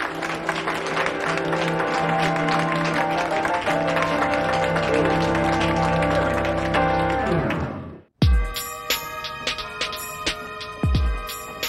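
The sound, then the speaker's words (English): A crowd claps in dense, steady applause for the new choir directors of the Holiday Hallelujah Choir for about eight seconds, with a faint tonal hum underneath, then it cuts off abruptly and gives way to a brighter, ringing tonal sound. “Harmony and Kyle reluctantly join the others in applause.”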